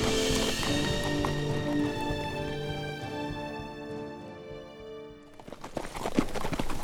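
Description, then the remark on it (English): Sustained, droning musical tones fade out, then the hooves of horses being led on foot up a road out of a valley clip-clop on the hard road in a steady walking rhythm, clear. “They walked up the road out of Serpent Valley, leading the horses.”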